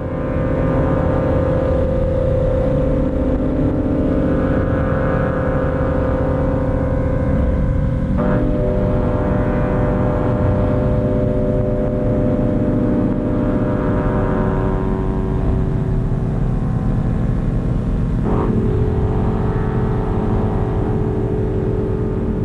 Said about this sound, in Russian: Музыка, которую вы только что слышали, достаточно элитарна и рассчитана на любителей вот такой особой эстетики.